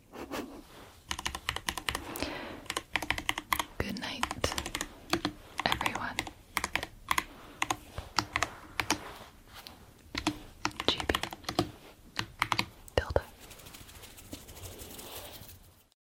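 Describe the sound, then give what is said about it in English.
Rapid, crisp keystrokes clatter on a computer keyboard, one of several keyboards tried for racing, in a dense, fast stream of clicks, fairly loud, with no talking over it. “Those first two keyboards definitely would be my choice for racing,”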